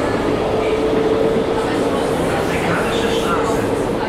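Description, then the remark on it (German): A subway train rumbles steadily through the Afrikanische Straße U-Bahn station in the Wedding district of Berlin, Germany, a dense, continuous roar with low clattering and a faint high whine, fairly loud, with indistinct voices mixed in. “U-Bahn-Station Afrikanische Straße im Berliner Stadtteil Wedding.”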